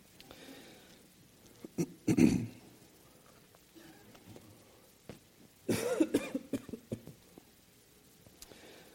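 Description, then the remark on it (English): A preacher coughs during a sermon in two bouts: a short harsh burst, then after a pause a longer fit of several rapid, rough coughs, with no talking in between. “it would help him not get choked up like I am”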